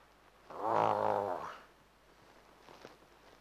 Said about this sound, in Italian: La notte sentite i leoni che girano intorno. E sai che stanno lì intorno perché senti questo ruggito.